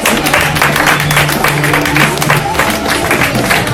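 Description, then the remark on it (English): A comedy show crowd applauds a comedian steadily and loudly, a dense wash of many hands clapping with no pauses, accompanied by a low hum and faint scattered voices underneath. “everybody, give it up for him.”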